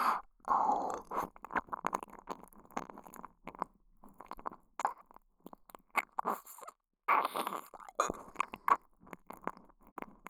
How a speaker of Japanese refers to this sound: ただペロペロしてるだけなのに、エッチな吐息いっぱい出てるよ。